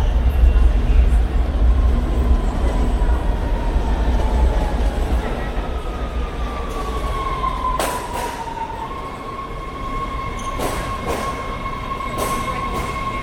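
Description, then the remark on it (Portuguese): A Washington, D.C. metro subway train rumbles steadily from inside the car, with a strong low drone, tonal whines shifting in pitch and a few sharp clanks and rattles as it rolls along; recorded by a professional audio recordist. “Essa gravação é do metrô de Washington, D.C.”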